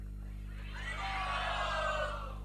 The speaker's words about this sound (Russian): Пожалуйста, поднимите руки и крикните, кто надеется на счастье в материальном мире. Крикните, пожалуйста, «Хари Бол».